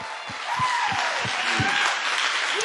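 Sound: audience clapping and shouting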